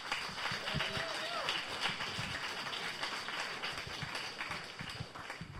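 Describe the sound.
An audience applauds a speaker being introduced, with dense, steady clapping that holds at an even loudness for about six seconds, a faint voice briefly audible underneath.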